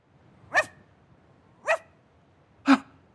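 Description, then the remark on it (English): A dog barks three times, with sharp, evenly spaced woofs about a second apart, against a quiet background, with no one talking. “Clever dog. Barry came to find you.”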